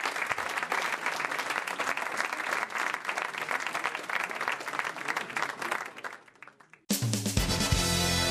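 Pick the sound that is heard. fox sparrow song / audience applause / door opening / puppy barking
audience applause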